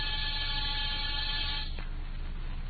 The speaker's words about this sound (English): After disturbing 7 occupants of 7 different apartments and getting 7 nasty comments, I rang one buzzer.